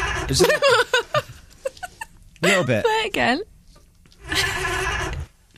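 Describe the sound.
Brief talk is followed by a wavering, sheep-like bleating giggle from a human voice attempting a girly, sexy laugh, fairly loud, lasting about a second near the end.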